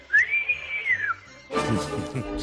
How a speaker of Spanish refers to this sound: A mí me recuerda más el silbido al toque de flauta